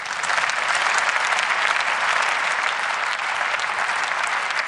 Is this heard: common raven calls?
no